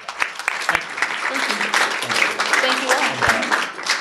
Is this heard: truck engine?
no